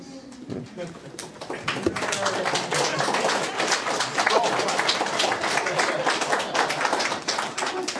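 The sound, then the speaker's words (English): A smattered round of applause marking the finish of a book being studied: a few claps at first, quickly filling into a steady patter of many overlapping hand claps that carries on evenly to the end, with faint voices underneath. “And suddenly, an appropriately smattered round of applause.”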